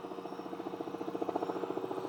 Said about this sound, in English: I'm wondering if there's a fugitive loose because this helicopter keeps circling, so. I don't know if you could hear that when he went by here. No. He's coming over again. Here he comes. Listen.